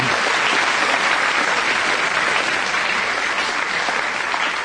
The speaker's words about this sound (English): Right, give Willie a round of applause then, because he's...